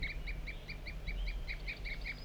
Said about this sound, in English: Tooping by the wild bird again.